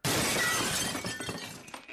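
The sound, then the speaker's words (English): A heavy glass sugar dispenser is thrown through the plate glass window of a diner, a loud sudden shatter followed by shards tinkling and scattering for a couple of seconds, with no voices. “And by crack, I mean I'm going to take one of these heavy glass sugar dispensers and throw it right through the plate glass window of the diner.”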